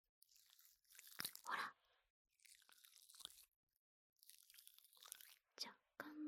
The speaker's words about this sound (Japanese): まず最初は普通のジェルみたいな音なんですが、だんだんシュワシュワしてくるんです。